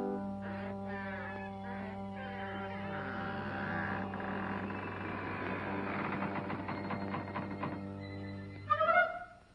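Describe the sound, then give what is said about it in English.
A long, slow creak of a latched tower chamber door opening: a groaning, harmonic drone that wavers in pitch and roughens into rapid stuttering squeaks, then ends with a brief louder knock after about nine seconds. “Slowly the door creaks open.”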